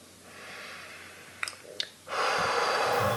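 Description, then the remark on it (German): Two quick, soft sniffs, then a long, steady breath out through the nose during a breathing meditation, fairly loud, with no talking. “Ist gut durch die Nase übrigens zu atmen.”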